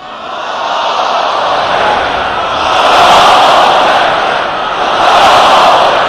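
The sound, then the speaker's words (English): A large crowd gathered at Imam Khomeini's mausoleum in southern Tehran, addressed by Ayatollah Khamenei to commemorate the late leader's 23rd passing anniversary, roars together in loud, sustained waves, swelling twice like a rhythmic chant or collective shout, many voices blending into a dense, continuous wash. “Ayatollah Khamenei was addressing a large crowd of people gathering in Imam Khomeini's mausoleum in southern Tehran to commemorate the 23rd passing anniversary of the late leader.”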